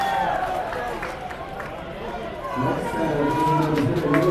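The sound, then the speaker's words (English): A baseball crowd roars and chatters in a steady wash of noise, with scattered shouts rising out of it, as Daniel Mateo of the Dads reaches base on a leadoff triple. The cheering swells louder in the last couple of seconds. “As Daniel Mateo gets the crowd going, just the second hit of the ball game for the Dads.”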